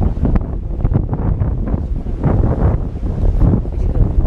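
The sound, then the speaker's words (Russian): A hollow metal structure with holes gives a loud, rushing, breath-like whoosh each time waves strike it, blended with steady wind buffeting and surf noise. “И она так периодически как выдыхает. Но это когда волной в нее бьет, и она такой звук издает очень интересный.”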